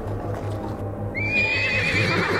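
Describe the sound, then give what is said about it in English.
A horse with a potato sack fitted over it whinnies loudly in a dust storm from about the middle onward, a high wavering neigh over a steady low rumble and the faint thud of hooves, with no talking. “The potato sacks we fitted over our horses are sliding down.”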